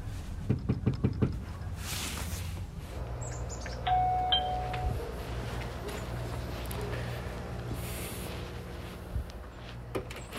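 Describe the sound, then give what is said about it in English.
A quick burst of about half a dozen sharp, fairly loud knocks on a door by a Washington Post reporter going door to door in Salisbury, followed by a brief electronic chime and a low steady background hum. “I essentially just kind of knocked on a lot of doors.”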